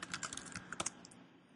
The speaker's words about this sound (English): I'll have to type in my password because this is one of the other hassles with Git in Windows.